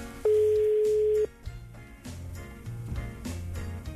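A phone call being placed to Gigi of Gigi Ross to wish him a happy name day: a loud, steady line tone holds for about a second, then gives way to quieter, repeating dialing and ringing tones with faint clicks. No one speaks.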